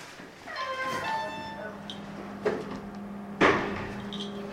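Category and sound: household object, door opening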